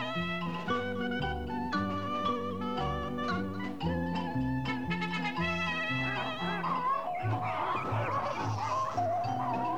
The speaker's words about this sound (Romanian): Și atunci toate păsările din ograda boierească, văzând vitejia cocoșului, s-au luat după dânsul, de ce se părea că e o nuntă, nu altceva.